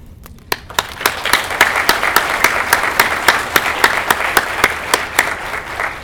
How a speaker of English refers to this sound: This has been a really great conference for me, very moving conference for me to know that there are so many of you committed to saving our world's languages. For that alone, I want you all to have your own applause.